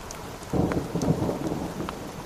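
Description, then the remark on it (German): Steady rain patters against a surface while a deep roll of thunder swells in and rumbles on during a thunderstorm among 2,000-metre peaks in Friuli, Italy. No voices, just the storm. “Zwischen den 2000ern hat sich ein Gewitter zusammengebraut.”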